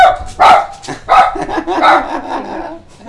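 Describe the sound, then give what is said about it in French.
A dog barks loud and a little yappy, about three strong barks spaced roughly half a second apart with smaller yips in between, and no one talking. “Mon chien qui fait.”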